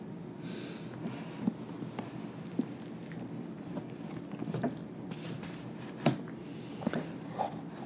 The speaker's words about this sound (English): And as we finish reading, rain comes, a sign of Mother's grace.